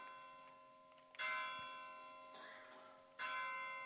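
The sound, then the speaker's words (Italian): Church bells ring out in slow, evenly spaced strikes, three heard here with the middle one softer, each leaving a long shimmering hum that lingers between tolls. No voices are present. “Le campane mi dicono che devo finire.”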